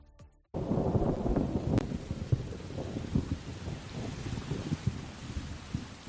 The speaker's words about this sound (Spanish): Qué miedo da una tormenta eléctrica como esta, ¿verdad?